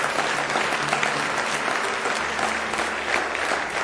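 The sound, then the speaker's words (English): A church audience claps hands for the Lord in steady, dense applause during a morning service, staying loud and even for the whole stretch, with no voices rising above it. “Give the Lord a good hand clap this morning.”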